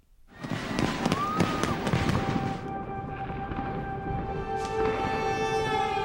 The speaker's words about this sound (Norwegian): Fyrverkeriet henger over Oslo.